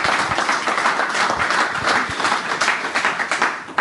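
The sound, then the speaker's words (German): Steady applause from an audience at an evening event in Dortmund welcoming guests, including former professional footballer Michael Schulz. A dense wash of many hands clapping at a fairly loud, even level for a few seconds, with no clear voices on top. “Ja, vielleicht ein kleiner Applaus an der Stelle.”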